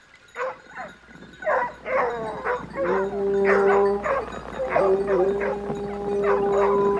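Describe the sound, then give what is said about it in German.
Several dogs bark excitedly and repeatedly in overlapping yelps during a king's great hunt in a forest, while long steady hunting-horn blasts sound beneath them from partway through. “Da schallte darin das Hörnerblasen, Hundegebell und das lustige Geschrei der Jäger”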